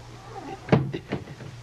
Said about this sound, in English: They close the trap door, he said.